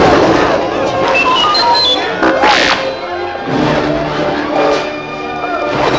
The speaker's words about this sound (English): But before they could attack, one of the Ewoks chopped through some vine ropes and released a pile of logs. The giant tree trunks crashed down on the stormtroopers.